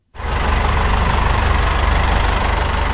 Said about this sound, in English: Another tractor rolls up to the weighing bay loaded with olives. I am at a processing factory in a village called Arajal, just outside the city of Seville in the south of Spain.